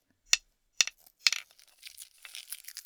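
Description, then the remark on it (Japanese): Crinkling plastic wrapping on a paintbrush: three sharp crackly snaps spaced about half a second apart, then a steady, busy rustling crinkle, fairly quiet, with no voices. “ビニール部分ありますよね。 ハケ。”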